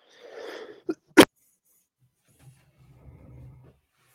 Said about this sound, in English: I think I lost your mic right there during that last cough.